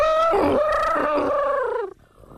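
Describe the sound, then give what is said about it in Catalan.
A person loudly imitates an elephant's trumpet, one sustained, brassy, nasal blast lasting about two seconds that bends slightly in pitch before cutting off abruptly, with no other talking. “També podria fer un elefant.”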